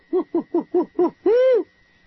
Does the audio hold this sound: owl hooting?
yes